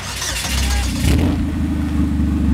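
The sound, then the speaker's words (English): A Cobalt stock car engine fires up at a race track after a pit safety check and revs hard, settling into a loud, deep, throbbing idle with a steady low rumble and no voices. “Greg gives the green light, and with that, the Cobalt and Cole are ready to return to the track. Fired up.”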